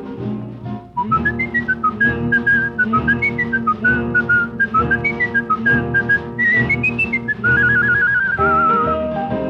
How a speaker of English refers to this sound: If so, here's the way you'd whistle at that fine animal. A little Scotty is very popular. They make a wonderful dog and a marvelous companion, especially for the children.